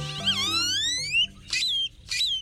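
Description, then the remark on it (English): Great-tailed grackle calls: a long, squeaky whistle sweeping upward in pitch, followed by two short, harsh, buzzy bursts with a ringing tone, loud and clear with no voices. “Great-tailed grackles are known for their long, expressive tails and their wide vocabulary of odd sounds.”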